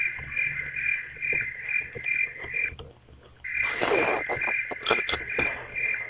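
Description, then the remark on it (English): A steady, shrill chorus of crickets chirping outdoors, continuous high-pitched trilling with a brief dip midway, plus faint low rustling and scattered clicks in the background. “Those would be crickets.”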